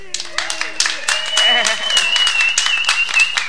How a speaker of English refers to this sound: But I want to have a big round of hello and applause for the wonderful burlesque performer and artist